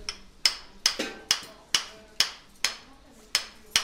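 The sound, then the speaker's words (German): A steady series of about eight sharp, ringing hammer blows, spaced roughly half a second apart, as a new prosthetic joint stem is driven from above into the thigh bone with a hammer during a joint revision operation; each strike is bright and metallic with a brief decay. “Er wird von oben in den Oberschenkelknochen getrieben. Und dazu brauchen wir auch wieder unseren Hammer.”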